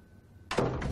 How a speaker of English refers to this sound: Come outside and close the door a minute.